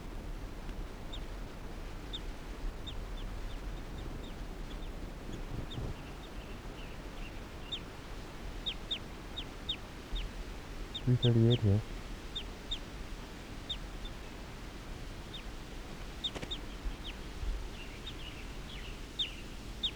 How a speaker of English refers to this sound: Recording, this is bird 338 calling softly in response to a wild bird.